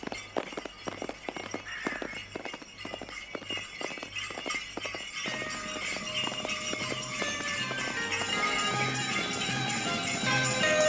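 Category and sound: animal, horse-drawn cart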